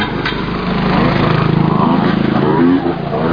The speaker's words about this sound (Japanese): あ、車が正面に来ました。 あ、これ車も通ったりする のね。バイク、 バイクか。